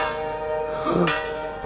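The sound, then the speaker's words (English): A large bell, rung as the front doorbell at a gateway, rings out with a deep, sustained toll, its rich overtones humming and lingering loudly throughout, with no voices present. “Oh, that's done it. Now I've rung the front doorbell.”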